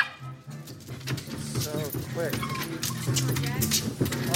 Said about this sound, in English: I've seen like five rats. The dogs are just kind of going crazy.